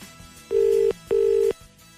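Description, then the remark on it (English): Two steady ringback tones on an outgoing phone call, each lasting about half a second with a short gap between, heard clearly through the line with no one talking. “It's still ringing there.”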